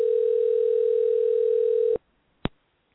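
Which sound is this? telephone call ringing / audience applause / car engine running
telephone call ringing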